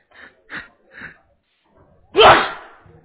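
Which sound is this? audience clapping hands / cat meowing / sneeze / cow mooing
sneeze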